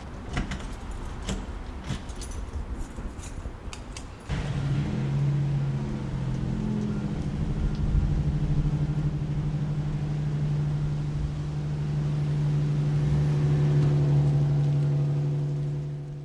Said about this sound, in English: Is this bus the university's bus? Yes, the Razorback Paratransit. I think it might be here. Yeah, it's coming probably right now.